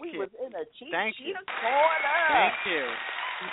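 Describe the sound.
A brief spoken phrase gives way to a steady burst of audience applause for a guest, a dense wash of clapping that carries some cheering voices and holds loud for about two seconds.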